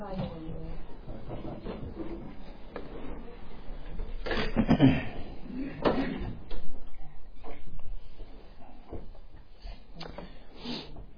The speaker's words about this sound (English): Can we close the door? It's really distracting. I'm sorry.